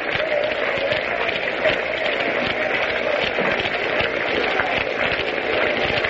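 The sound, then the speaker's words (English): A baseball game crowd claps steadily but half-heartedly, a dense patter of many hands over a low murmur, holding at an even, moderate level the whole time. “Crowd is beginning a sort of a half-hearted hand clapping.”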